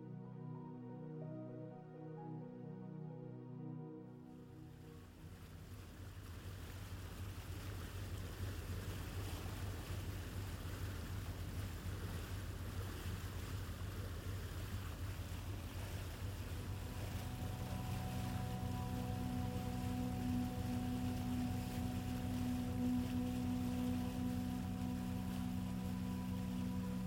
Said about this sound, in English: We begin on a relaxing ferry ride across a crystal blue lake. Rolling hills pass by along the shoreline as the boat's engine softly rumbles beneath your feet.